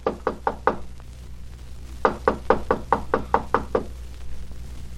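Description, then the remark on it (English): Two bursts of sharp knocking on a door by an arriving visitor: four quick raps, a short pause, then a longer run of about eight firm, evenly spaced knocks, clear with no one speaking. “You'd better answer the door, my friend. Our visitor is here.”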